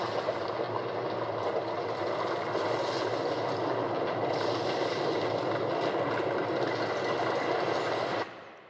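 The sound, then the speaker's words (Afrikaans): An earthquake rumble sound effect: a steady, loud, deep roaring rumble with a rattling, noisy texture that holds constant for about eight seconds, then cuts off abruptly. “Is die klank nog aan, want ek gaan nog 'n klank gee. Na die wind was daar 'n aardbewing.”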